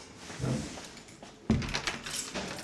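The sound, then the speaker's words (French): A door is reopened with a sharp latch click and a short rattling thud after someone crosses a corridor to go wash their hands, surrounded by soft handling and shuffling noises in a quiet indoor space. “Donc, si je veux me laver les mains, j'ouvre la porte, je laisse ma fille, bien sûr, je traverse le couloir et je rouvre la porte.”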